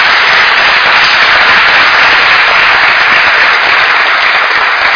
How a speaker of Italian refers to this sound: Io li voglio ringraziare, oltre che per la loro lezione, sia di diritto sia relativa al discorso della prevenzione dei crimini, anche del crimine della violenza contro le donne, anche per questo loro atto volontario. Grazie e un grande applauso.